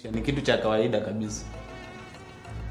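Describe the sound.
A steady, thin whine of mosquitoes buzzing close by, continuous throughout, with a voice briefly audible near the start over the hum.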